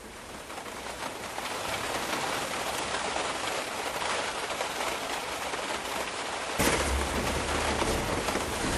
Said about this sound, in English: But basically I was caught in a storm in the Tesco's car park, and I really enjoyed the rain and the musical quality of the sound of it